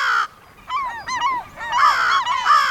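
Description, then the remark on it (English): A crow caws repeatedly in a quick, uneven series of harsh, nasal calls, loud, with brief pauses between bursts and no voices present. “Very crafty, these crows.”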